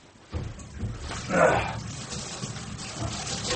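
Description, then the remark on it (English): Cold water runs from a tap with a steady hiss that starts abruptly, swells briefly into a louder gush, then settles back to a constant flow. “Cold water ought to help.”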